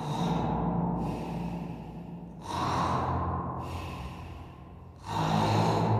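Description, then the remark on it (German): Loud, heavy snoring from a sleeping police officer, with rasping breaths rising and falling in a steady rhythm, about three snores in a row and no talking. “Das Schnarchen hören Sie schon von Weitem. So laut ist es.”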